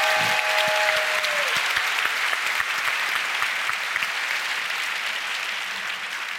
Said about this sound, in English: So if we could all give a round of applause to Gary O'Reilly.